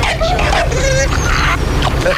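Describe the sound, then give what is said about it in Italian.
Ringhio, Aldo's bulldog, riding in a car, vocalizes in a string of short, nasal, honking grunts and whines, rising and falling in pitch, fairly loud over a steady low rumbling hum. “Un posto in macchina è riservato al cane di Aldo, Ringhio, un bulldog molto amato dal suocero dei tre.”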